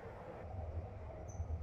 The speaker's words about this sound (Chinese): 列车即将到达的是终点站天通苑东。感谢您乘坐北京地铁十八号线。 We're now arriving at 天通苑东。This train terminates here. Thank you for taking Beijing Subway, Line 18.